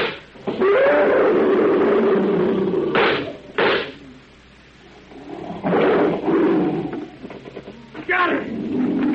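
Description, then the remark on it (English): A tiger roars and snarls, loud rumbling growls broken by sharp bursts of noise, then a quieter lull before another round of roaring and a final harsh snarl. “Killed my tiger.”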